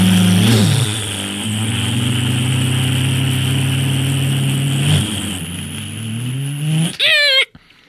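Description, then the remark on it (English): A voice imitates a race car engine with a loud, steady buzzing drone lasting several seconds, ending in a quick high rising whine before cutting off. “okay, I went off in a race car and I came back to get my spinny stick.”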